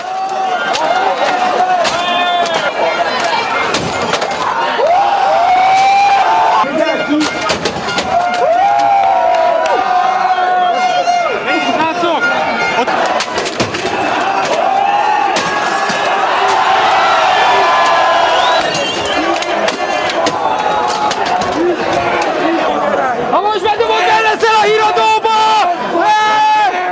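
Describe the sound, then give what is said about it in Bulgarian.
A large protest crowd of more than 10,000 people in front of the Ministry of Economy building in Hungary roars continuously, with shouting voices, whoops and cheers rising above a dense wash of chatter, punctuated by sharp bangs and thuds throughout. Young protesters threw old computer monitors, keyboards and other heavy objects at the building. “в протеста пред сградата на Министерството на икономиката са участвали над 10 000 граждани”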